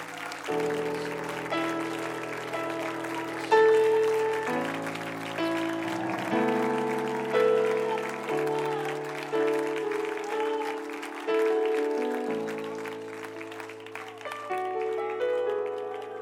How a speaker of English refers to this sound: Somebody give Jesus a clap offering of praise in this house today.